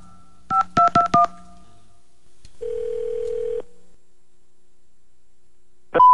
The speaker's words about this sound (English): All right. Now, another world famous Mojo in the Morning phone scam. You do the dialing, I'll do the talking.